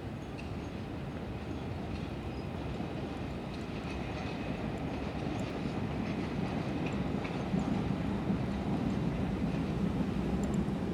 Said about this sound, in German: Und natürlich die S-Bahn.